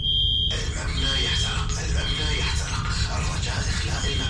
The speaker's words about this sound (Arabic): وبيوم وفجأة رن جرس الإنذار.